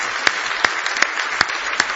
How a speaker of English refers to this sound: Give the Lord a big hand clap of praise this morning.